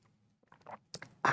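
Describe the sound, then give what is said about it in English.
Someone takes a quick sip of 1775 brand coffee: a couple of small wet mouth sounds build to a short, loud slurp at the end, with no talking. “I will have a sip of my 1775 coffee.”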